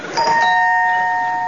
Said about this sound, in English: I'll ring the doorbell. I'll try again.